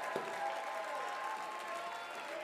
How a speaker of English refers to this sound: If you receive that tonight, one more time, take 15 more seconds, clap your hands in Lancaster. Give God a mighty shout.